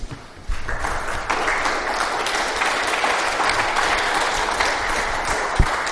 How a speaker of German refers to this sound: Und einfach ein Danke dafür und dafür bitte einen Applaus.